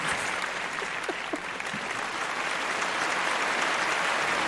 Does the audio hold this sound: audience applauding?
yes